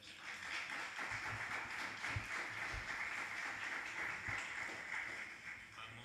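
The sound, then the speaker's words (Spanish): Steady applause from an audience at a press conference, for the team of the film Adults in the Room: dense overlapping clapping sustained at an even level for several seconds without any speech. “Un aplauso también al equipo de Adults in the Room que se van a unir en este momento a la rueda de prensa.”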